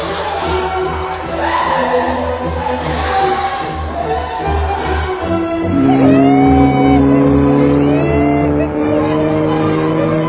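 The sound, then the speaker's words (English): The engine of a Durango 95 car purrs as it drives away, a steady, low, throbbing hum, its tone growing stronger and more sustained about halfway through, with faint higher whines gliding over the rumble. “The Durango 95 purred away real horror show.”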